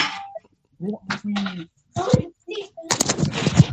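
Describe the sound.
A frying pan strikes a child's head with a series of sharp, loud, clanging thwacks, one after another, mixed with bursts of voices and a noisy jumble of sound toward the end.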